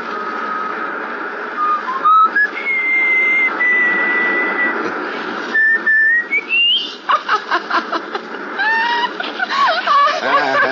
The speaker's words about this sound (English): Can you whistle? Sure. Whistle. Yeah, I know just the tune.